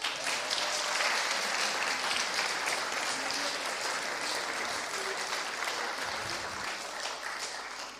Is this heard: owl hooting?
no